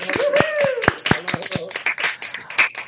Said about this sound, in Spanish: Nos damos un aplauso todos. Sí, venga.